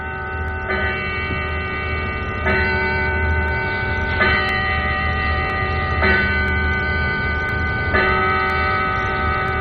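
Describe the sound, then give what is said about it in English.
A clock chimes a slow sequence of sustained, ringing tones, each new strike arriving about every two seconds and blending into the lingering resonance of the last, with no talking. “I'm going to wait till the clock finishes chiming.”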